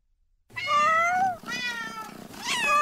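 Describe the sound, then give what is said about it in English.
Several cats meow in quick succession, three long, drawn-out cries, loud, each rising and falling in pitch, with no talking. “Why the cats?”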